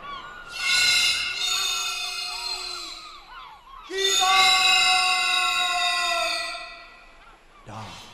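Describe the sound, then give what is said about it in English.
Storm birds cry out in two long, loud, shrill wailing calls, each lasting a few seconds, followed by the start of a brief third cry. No one speaks. “With a cry of storm birds.”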